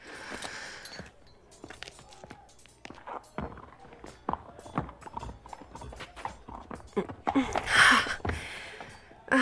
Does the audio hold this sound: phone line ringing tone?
no